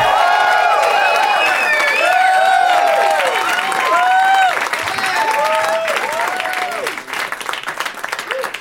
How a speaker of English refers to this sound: Nice clapping, white people.